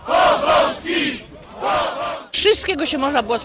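protest crowd chanting

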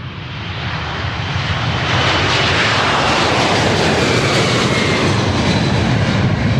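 airplane engine

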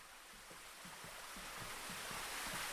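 spring water flowing

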